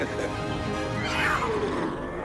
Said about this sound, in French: Qui c'est, King ? C'est notre lion.